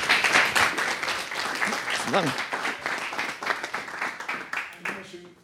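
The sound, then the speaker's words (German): A crowd applauds steadily with dense, even clapping throughout, fairly loud, as an audience welcomes a speaker; a voice briefly calls out over the applause partway through and it begins to thin near the end. “Applaus!”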